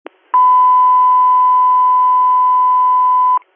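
A dispatch radio alert tone: one steady, mid-pitched beep held loud and unbroken for about three seconds, with brief static clicks at the start and end and no voices.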